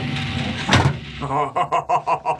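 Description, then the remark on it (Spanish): A large automatic electric steel gate around a lone hilltop house opens after a car flashes its headlights three times, with a steady motorized whir, a sharp metallic clunk, then a series of rhythmic mechanical pulses as it moves, moderately loud. “instantes después, la verja se abre automáticamente”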